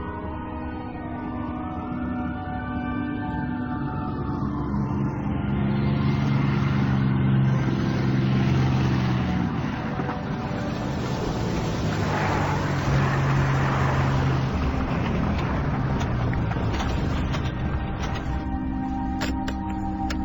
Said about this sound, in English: Cars surged through the metropolis that never sleeps.